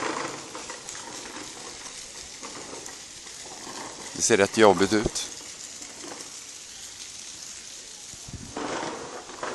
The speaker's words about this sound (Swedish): Det som låter nu är ungen försöker köra över massa kullerstenar med sin plastbil. Som man sitter på. Det är en sån här sitta på bil.